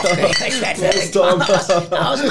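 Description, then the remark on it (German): Glasses clink together in a toast, several bright ringing chinks overlapping in quick succession, fairly loud, with a busy clatter and faint background voices. “Prost, Leute! Prost auf die Stöcke von Tom.”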